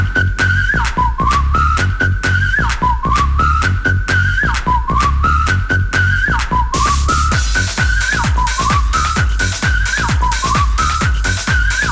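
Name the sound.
whistling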